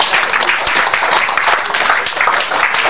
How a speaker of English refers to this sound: Give Jesus a clap of it.